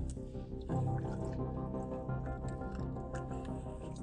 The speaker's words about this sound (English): Pardon me drinking Poland Spring water.